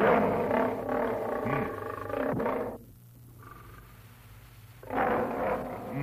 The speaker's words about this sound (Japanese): 何かライオンが言いたげにしておる。何を言いたいのか聞いてやらねばならぬ。これ、ライオン、なんだな？